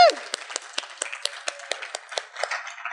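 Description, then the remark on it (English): An audience claps steadily for a few seconds for a group of young writers, with crisp, overlapping handclaps. A brief cheering voice rises at the very start. “Can we have one more big round of applause for all these writers?”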